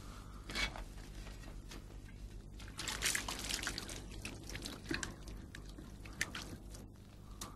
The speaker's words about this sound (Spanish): Échame agua para lavar mis manos. ¡Hazlo!